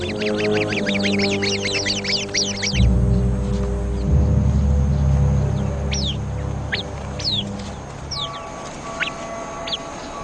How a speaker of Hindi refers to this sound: जहरीला सांप, पहरेदार पक्षी खतरे की चेतावनी देने के लिए एक खास आवाज निकालता है। समूह के सभी सदस्य एक दूसरे की हिफाजत के लिए जमा हो जाते हैं।